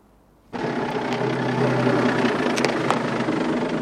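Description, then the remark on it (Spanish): Danglar's car arrives at a church carrying the bride, her mother and three sisters: the engine cuts in abruptly after a brief quiet moment and settles into a steady, rumbling idle, holding a constant level to the end with no voices. “Llega el coche de Danglar con la novia, la madre y las tres hermanas.”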